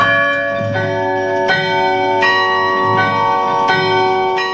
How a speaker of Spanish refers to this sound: El carrillón, un instrumento con sonido de campanas.